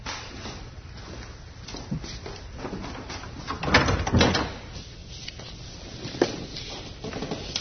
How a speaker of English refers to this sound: Windridge, close the door.